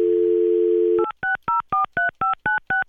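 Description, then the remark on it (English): A steady telephone dial tone for about a second, then a quick run of eight touch-tone dialing beeps in an even rhythm as a dog watcher is called live on air on Robin Hood Radio, clear with no talking. “I'll probably wake her up, Pat, but we're going to call her and tell her right now.”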